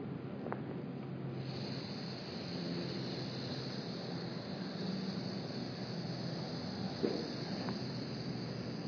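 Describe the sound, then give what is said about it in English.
Several people hiss together on one long, steady exhale during a guided movement exercise for the shoulder blades, a soft continuous breathy rush that holds for several seconds without a break. Nobody speaks. “As you hiss, the umbrella closes around the central axis, moving inside the scapula.”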